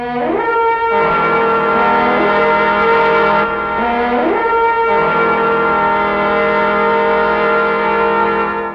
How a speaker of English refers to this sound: And the army of Israel and the Ark of the Covenant, preceded by 7 priests, marched around Jericho 6 times. And at the 7th time, the priests blew their trumpets.